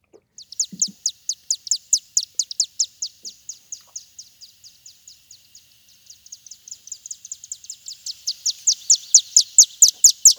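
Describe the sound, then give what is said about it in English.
Rapid, high-pitched chittering calls of a chimney swift, a bird that passes through on migration, in a continuous stream of sharp twittering notes, fading slightly midway then building louder toward the end, with no one talking. “This is the chimney swift.”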